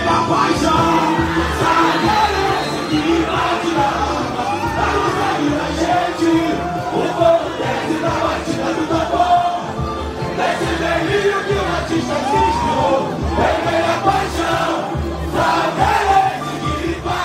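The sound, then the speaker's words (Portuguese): Supporters of the Salgueiro samba school cheer and yell loudly and continuously, voices rising in a dense, energetic roar with shouts breaking through, as the chorus of the school's new samba-enredo for the 2023 Rio carnival is sung. “A parceria é de 8 compositores e o refrão levantou a torcida”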